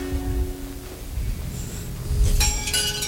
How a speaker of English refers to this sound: Dude, who puts wind chimes in such an evil place? I know. nothing says scary lair like wind chimes. Mm-hmm. Especially indoors, it's effective.